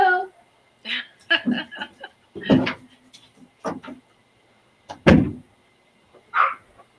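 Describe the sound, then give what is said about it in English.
A door bangs open with a single loud thud as the speaker's 4-year-old child comes in, surrounded by scattered knocks and bumps while indistinct voices murmur. “I've got a toddler, so if you hear like a door from, like slamming open, it's my 4-year-old coming to check out what I'm doing.”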